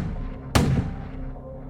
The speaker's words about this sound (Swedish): Skottet ekar genom rummet.